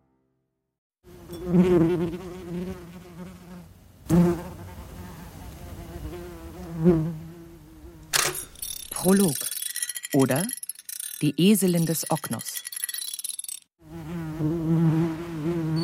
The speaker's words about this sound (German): Da ist eine Wespe. Also so eine ganz normale Wespe. Und oft, wenn ich arbeite, sitze ich ja hier eben in der Stille und mache meine Knoten, die eben so gut wie geräuschlos sind, und höre sie dann eben knabbern.